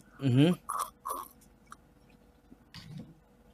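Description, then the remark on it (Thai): A few quick slurping sips of bitter Bon Cafe coffee, with a brief voiced sound at the start and small mouth noises afterward, then near silence. “ขมเหลือเกินกาแฟบองคาเฟ่จิบแล้วรู้สึก ถึงความอันนี้รสชาติกาแฟหรือมันคั่วไหม้วะ”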